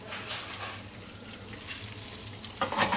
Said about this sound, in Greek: Έχουμε ζεστάνει ένα τηγάνι, προσθέτουμε ελαιόλαδο και βάζουμε τα λαχανικά να σοταριστούν. Και όπως θα ξέρετε, το ελαιόλαδο δεν θέλει ποτέ να είναι το τηγάνι μας ζεστό.